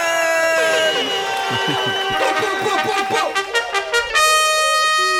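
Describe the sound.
A crowd in Sweden shouts and cheers loudly for a music collective for about five seconds, with many overlapping voices yelling in a dense, sustained roar that surges toward the end.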